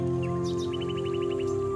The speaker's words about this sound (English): You might be able to hear seagulls calling from overhead.